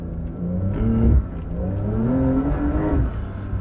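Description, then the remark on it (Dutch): A Porsche 911 Dakar engine revs loudly while driving through sand dunes, its pitch climbing and dropping through a few throttle surges over a steady rumbling drone, with no voices. “En als je ooit een 911 Dakar kan kopen.”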